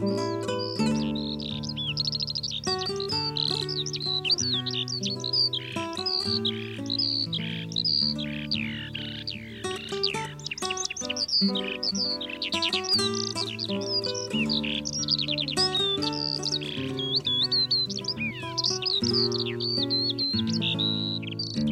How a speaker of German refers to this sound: Das war die Feldlerche.